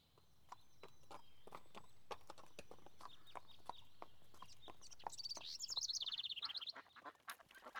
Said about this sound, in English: There goes Jane on her little horse.